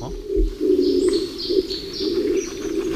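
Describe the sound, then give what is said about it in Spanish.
The low, hoarse cooing of a Bolle's laurel pigeon, a pigeon endemic to these laurel forests, drones steadily through the whole stretch at Raso de la Bruma, with faint higher bird chirps scattered above it in a quiet forest setting. “Ese arrullo ronco es una paloma endémica de la paloma turquesa, endémica de estos bosques.”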